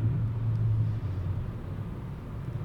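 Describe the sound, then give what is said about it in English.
Steady low rumble of a car cruising on the interstate at highway speed, with a droning engine hum and continuous road noise heard from inside the cabin, no one speaking. “This car, like, got right in front of me on the interstate. We were going 80, now we're going 50.”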